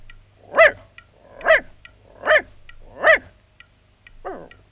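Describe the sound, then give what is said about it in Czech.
A dog, asked to count the answer to a sum, barks five times in a steady, evenly spaced sequence, four full, loud barks followed by a weaker, shorter fifth one. No one speaks. “Nic neumí, štěkl 5x. A umí. Po 5. štěkl jen tak na půl.”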